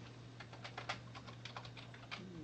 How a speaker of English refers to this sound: You just keep typing. I was just curious. It's just a, like raindrops, just like raindrops.